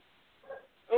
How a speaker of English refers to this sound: … said, "What is going on with those dogs?" Someone needs to spray those dogs. They're probably banging.